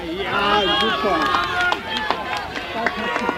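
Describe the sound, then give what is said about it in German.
Scattered handclaps from onlookers at a javelin competition in cold February air, a handful of sharp, irregular claps ringing out after the winning 34.62-metre throw in the over-80 class, over lively overlapping voices and cheering that fill most of the moment. “Ich klatsche mit und denke, werde ich in 20 Jahren noch annähernd so weit werfen?”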